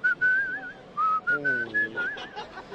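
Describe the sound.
Someone whistles the melody of a pop song: a string of clear, sustained high notes gliding up and down, with a brief low voiced hum underneath partway through.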